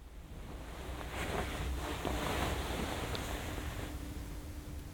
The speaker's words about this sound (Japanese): 隣、失礼するね。このまま寝ても大丈夫なようにお布団もかけちゃおうね。